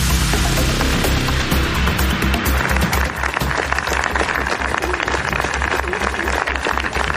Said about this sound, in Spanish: El aplauso de los centenares de personas concentradas en el cementerio civil de Madrid para despedir con un libro en la mano a Almudena Grandes.